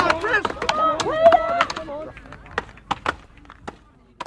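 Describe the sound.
Sharp, woody thwacks of an axe chopping wood land at an uneven pace, about five or six strikes, following a stretch of voices talking at the start.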